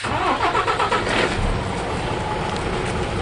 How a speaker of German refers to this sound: Gerade verlässt der Milchtransporter den Hof in der Region Kharkiv.